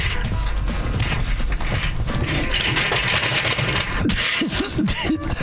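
A continuous jumble of creaking, scraping and rattling as a person falls out of a chair, with a few sharp squeaks and knocks near the end.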